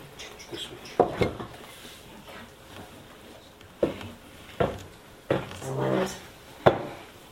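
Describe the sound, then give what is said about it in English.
A chair is shifted into place with a series of wooden knocks and short scrapes, about five bumps spread irregularly over several seconds, with faint voices in the background. “Can I steal one of these chairs? Sure. It'd be easier to move than this chair.”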